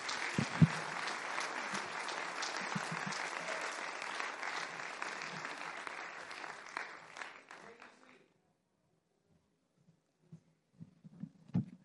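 A church audience claps steadily to give God thanks for a vision, a dense burst of applause for about eight seconds, then it stops abruptly, leaving a few scattered soft thumps and faint sounds.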